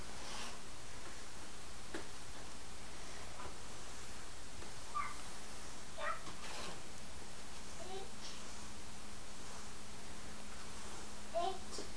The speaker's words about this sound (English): Let me open the door. I think it's probably nice outside. Oh, I hear all the birdies. Do you hear the birdies? Chip, chip.